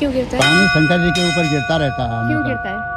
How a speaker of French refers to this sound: Là, la cloche, c'est un monsieur qui vient d'arriver pour prier, et donc il a fait sonner la cloche